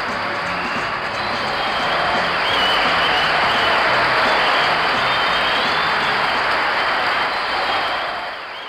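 A studio audience applauds steadily, a dense wash of clapping that holds at a fairly loud, even level for several seconds before tapering slightly at the end.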